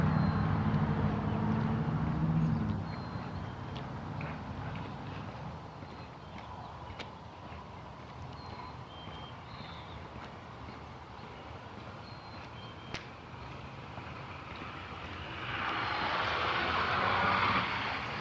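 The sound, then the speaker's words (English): Steady outdoor morning street traffic noise with a low rumbling vehicle at the start, scattered clicks and footsteps in between, and another vehicle swelling louder as it passes by near the end. “Traffic this morning.”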